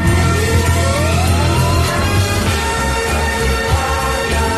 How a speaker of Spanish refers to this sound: Entre los sonidos del día, pues un aplauso sanitario más en Palma, con sonido de bocinas además. El sonido de las bocinas también, de barcos, de camiones, etcétera. Bueno, y el aplauso de policías locales que se bajan del coche y aplauden a la ciudad